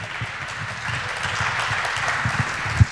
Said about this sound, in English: Oh, a big round of applause before she begins.